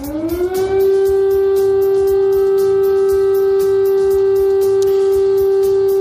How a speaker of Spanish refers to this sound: Escucha la sirena antiaérea.